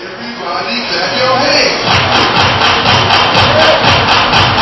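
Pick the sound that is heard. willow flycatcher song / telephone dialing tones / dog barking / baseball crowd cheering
baseball crowd cheering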